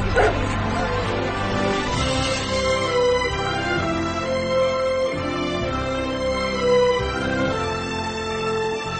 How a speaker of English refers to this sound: it's this confounded dog.